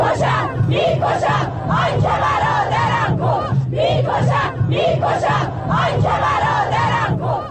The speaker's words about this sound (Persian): ویدیوها و تصاویر منتشر شده در شبکه‌های اجتماعی نشان می‌دهد روز پنجشنبه در مراسم تشییع پیکر دو شهروندی که بر اثر تیراندازی نیروهای بسیج در همدان کشته شدند، شرکت کنندگان شعارهای علیه نیروهای امنیتی سر دادند.